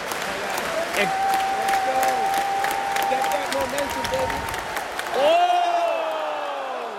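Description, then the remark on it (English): An arena crowd at TD Garden cheering and clapping steadily during the final round of the Weidman–Tavares fight, with sharp whistles cutting through the roar, then a louder surge of noise near the end. “He's willing that crowd behind him. The crowd wants to erupt.”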